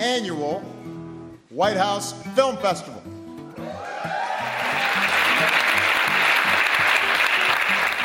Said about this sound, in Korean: 제2회 백악관 학생 영화제의 개막을 알리는 바락 오바마 대통령의 인사말에 관객석에서 환호성이 터져나옵니다.